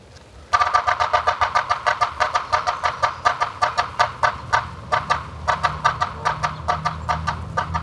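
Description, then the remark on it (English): A yellow-bellied sapsucker drums in a steady, slightly irregular run of sharp taps for several seconds, less regular than the drum of other woodpeckers, loud, with its harsh call notes mixed in over a low background rumble. “The Morse code of the yellow-bellied sapsucker is less regular than the drum of other woodpeckers, and its call note is harsh.”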